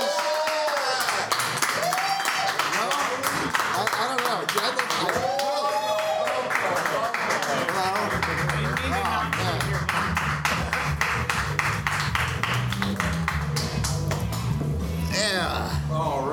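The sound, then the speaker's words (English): An audience claps steadily and loudly while voices cheer and whoop, greeting guests who have just been introduced. About halfway through, a low sustained tune begins beneath the ongoing applause. “We just heard people cheer.”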